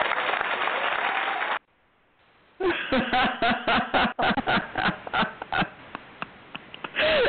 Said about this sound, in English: You know, really, the worst part about that is the applause.